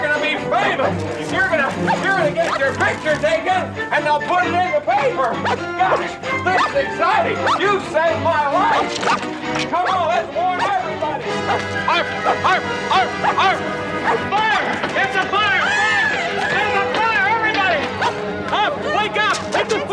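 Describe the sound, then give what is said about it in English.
A dog barks excitedly in rapid, repeated bursts, mixed in with voices talking and a busy, dense background that stays loud throughout. “I've heard about dogs like you!”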